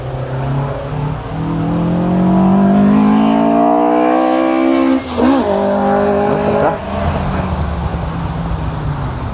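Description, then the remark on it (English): A race car engine with a problem runs loud and rough, its pitch climbing and wavering with uneven revs before a brief stutter and recovery, then fading slightly as it passes. “Oh dear, it sounds a bit rough. He's got a problem with his engine there.”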